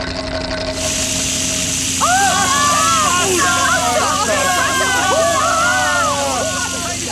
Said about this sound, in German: Tatsächlich. Wasser. Eine riesige Wasserfontäne schießt in die Höhe.